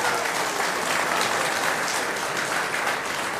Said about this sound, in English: Applause for our worship band.